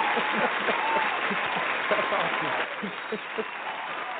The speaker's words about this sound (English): So let's give everyone an applause.